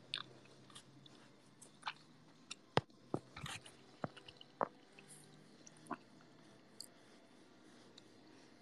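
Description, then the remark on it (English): Chewing food with crisp, irregular crunches and wet clicks scattered over several seconds, fairly quiet against a soft background hiss, with no talking. “I feel bad if you hear me chewing.”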